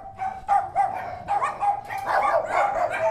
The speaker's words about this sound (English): Entering the kennel area, you're greeted by a chorus of non-stop barking, each dog jumping up on the kennel gate seeking attention.